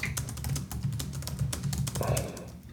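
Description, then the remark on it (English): Rapid, irregular keystrokes clatter on a computer keyboard as someone writes words, a steady stream of clicks with a low hum underneath and a faint murmuring voice in the background. “It's really interesting to listen to me type on a podcast.”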